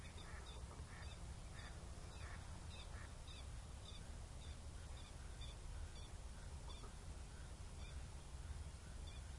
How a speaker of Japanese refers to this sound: まあ街明かりがあるからね、この世の中でも鳥が鳴くんですよね。ね、こんな暗いとこに何したに来たんじゃ我みたいな感じの抗議の声ですかね。